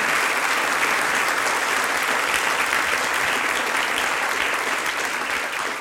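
Sustained applause from an audience welcoming the mayor, Armin Forstner, a dense, steady wash of many hands clapping at even loudness for several seconds, with no voices standing out.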